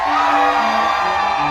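An audience cheers and yells together in answer to whether they would avoid flying in 2024, a loud sustained roar of whoops and shouts with steady dense noise throughout the short burst, no single voice standing out.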